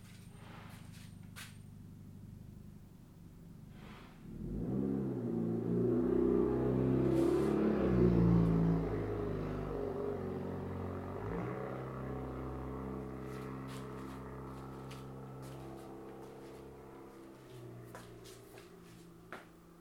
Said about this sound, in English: So that truck's gonna come by here in a bit.